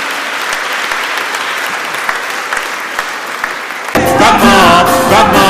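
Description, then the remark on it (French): A church audience applauds steadily for about four seconds, a dense, loud wash of clapping, before tuneful music swells in over the lingering applause. “Je voulais qu'on applaudisse, oui. Applaudissez-les.”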